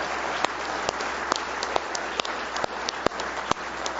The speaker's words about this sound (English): Give Him a big hand clap of praise tonight if you love Him.